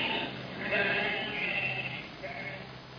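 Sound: sheep bleating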